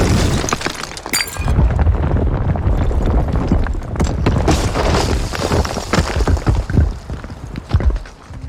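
Walls being knocked down and crumbling: loud crashing and rumbling with scattered cracks and falling debris that continues steadily for several seconds, with no voices.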